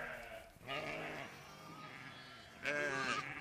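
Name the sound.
sheep and lambs bleating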